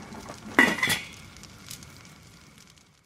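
A mother puts a metal lid down onto a cooking pot with a clank, two quick contacts followed by a short metallic ring that fades out, with no voices.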